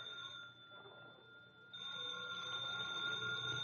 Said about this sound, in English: We just sat there until the silence was shattered by the ringing of the telephone.